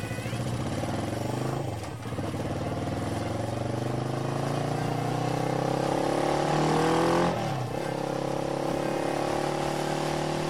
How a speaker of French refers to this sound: Rêvant de sucrerie, il se dépêcha de monter et de mettre en marche sa moto.